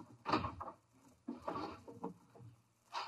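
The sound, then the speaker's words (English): A kitchen drawer is pulled open and rummaged through while searching for big paper bags on Halloween: a few noisy bursts of clattering and rustling with short pauses between, and no voices. “Sound like you were taking the kitchen apart.”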